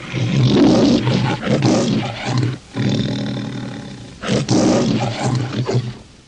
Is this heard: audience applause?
no